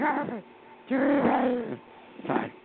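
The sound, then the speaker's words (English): A small dog gives three high whining yelps, a short one, then a longer drawn-out cry, then a brief final yip. “Here's a cute little dog.”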